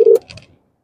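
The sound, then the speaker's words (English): A short phone tone sounds for a moment, followed by a few faint electronic blips as a call connects, then silence. No one speaks. “Let's see if we can get a phone.”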